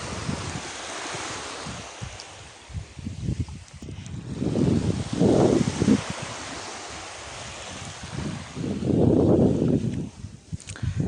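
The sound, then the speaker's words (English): Seaside ambience on a white sand beach on Tiree, with waves washing in and out in two broad swells, under a steady rush of wind buffeting the microphone. No one speaks. “I have guessed from the background sound there that today we're at the beach, we're at the seaside.”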